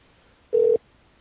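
A single short, steady electronic telephone tone sounds once, about a quarter second long, clear against quiet background hiss, with no voices, as a phone call is being placed.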